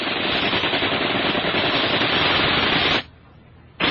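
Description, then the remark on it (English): Sustained machine gun fire from a hotel roof at a helicopter rattles in a dense, rapid stream of shots for about three seconds, breaks off briefly, then bursts back in at the end. No voices. “Muslims opened up with a deadly hail of fire.”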